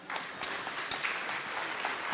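A crowd applauds steadily, a dense patter of many hands clapping at once, moderately loud and sustained throughout with a few sharper claps standing out.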